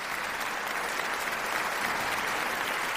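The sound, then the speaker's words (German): Steady, dense applause from a crowd, many hands clapping continuously at an even level for the full three seconds with no voices. “an dieser Stelle werden wir einen Applaus einfügen.”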